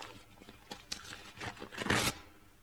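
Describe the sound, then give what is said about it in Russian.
A sealed paper packet is torn open: a few short crackling rips, then a longer, louder tear near the end, with no voices. “Давайте вскроем пакет.”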